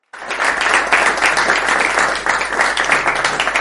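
A crowd applauds loudly and steadily, a dense wash of many hands clapping at once that starts abruptly and holds its energy for several seconds.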